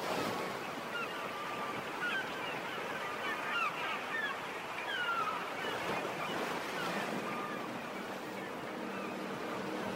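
A continuous, close wash of sea waves surging and rolling without pause, with faint thin tonal calls drifting above the steady roar.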